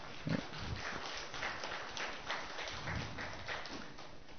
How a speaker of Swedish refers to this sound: Tack så jättemycket. Jag tycker ni kan ge dem en applåd.